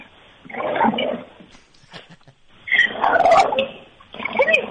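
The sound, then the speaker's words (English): A dog, coaxed by its owner to bark, growls in three rough, rumbling bursts, loud and gravelly, with short pauses between them and no talking over the sound. “I heard the growling. I heard a couple of growls.”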